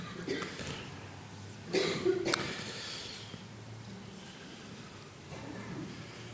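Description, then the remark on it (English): A few scattered coughs from different people in an audience gathering for an evening Dhamma talk, one short burst near the middle standing out louder than the rest, with faint rustling and murmuring between them. “I'm very happy to see or to hear other people coughing as well.”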